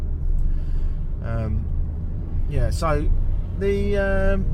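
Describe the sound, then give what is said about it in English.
A steady, low rumble of a car driving along a road on an island toward Porto Novo fills the whole recording, heard from inside the vehicle, with a person's voice briefly rising over the engine noise. “I'm going to drop this car off in Porto Novo, and this particular part of the island is the sort of arid bit, because it's away from the foresty bit.”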